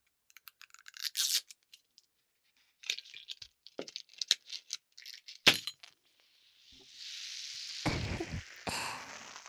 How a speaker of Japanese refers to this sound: まずはいろいろな炭酸の音を聞いてみてください。 ラムネの音です。